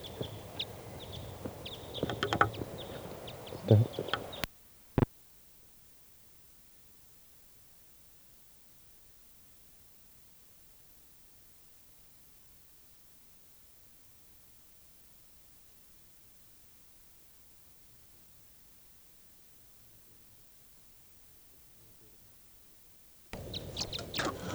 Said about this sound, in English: Start recording that bird again.